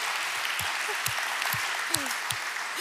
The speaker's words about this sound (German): Oder vielleicht, ja, das ist ein Applaus wert, glaube ich auch.